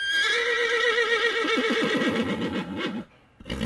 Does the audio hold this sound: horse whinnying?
yes